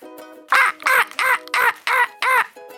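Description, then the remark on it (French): A voice imitates a seagull with six loud, nasal cawing calls in a steady rhythm, each about a quarter second long, with no other talking. “Bah, dis tout de suite que j'imite mal. C'était une mouette.”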